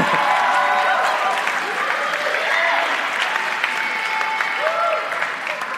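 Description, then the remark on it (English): An audience at a Sunday church service applauds steadily for several seconds, a dense, even wash of many hands clapping, with faint voices and a few cheers mixed into the noise. “So I don't get any applause, which is okay.”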